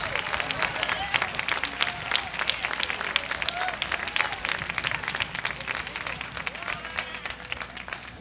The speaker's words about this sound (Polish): Dajmy Bogu oklaski.